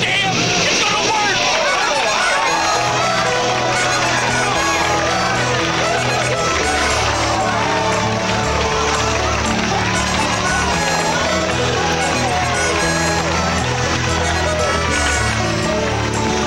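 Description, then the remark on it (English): A dense murmur of many voices as a crowd disperses, a steady babble with overlapping chatter and occasional louder calls, continuous and moderately loud throughout. “Crowd disperses.”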